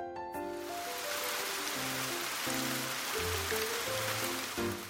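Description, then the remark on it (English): Steady rain falling in a continuous hiss for the whole stretch, with a soft, slow melody of sustained notes playing over it. No voices. “It's raining. We can't go fishing.”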